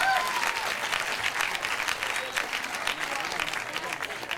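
The non-smokers in an audience applaud steadily when asked to identify themselves, a dense wash of many hands clapping at once, sustained at a fairly even moderate level throughout, with a faint whistle or cheer briefly rising near the start.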